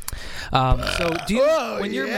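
A deep, croaky burp rumbles out loudly, stretching into a drawn-out, wavering voiced belch for about two seconds, with no talking around it.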